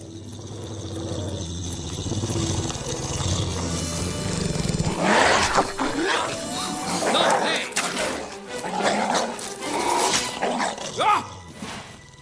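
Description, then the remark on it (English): A dog named Kyle growls low at first, then breaks into loud, snarling barks and growls in repeated bursts over the last several seconds. “Girls, this is Kyle, my dog.”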